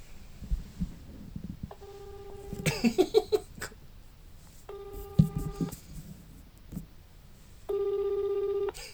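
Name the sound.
phone call ringing unanswered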